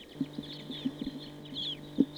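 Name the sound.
birds calling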